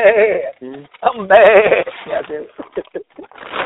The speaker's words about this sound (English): I ain't got no Billy goat. I got a prize winning goat. I just pulled back up in the driveway just now. I can hear him in the garage right now. I'm bad. I'm still hollering. I'm over in that garage right now. Can you hear him in the background?